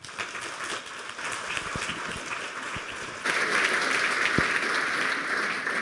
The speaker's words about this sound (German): Bitte einen kleinen Applaus